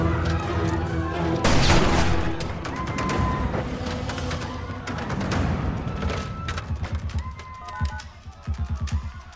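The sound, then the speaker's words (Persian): A dense, chaotic burst of rapid gunfire with heavy booming impacts, loud, including a big bomb explosion near the start, followed by continued rattling shots and thuds, from armed men in a hotel. “ما صدای انفجار بمب شنیدیم. یه انفجار مهیب.”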